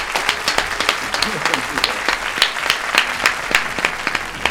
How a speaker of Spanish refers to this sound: Un aplauso para usted y un aplauso a su pasión. Un aplauso.